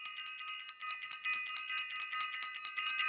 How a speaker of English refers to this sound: I also want to ring the bell.